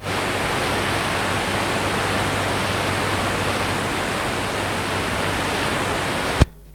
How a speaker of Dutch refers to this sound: Nou ja, dat is allemaal water wat doorstromen, ja.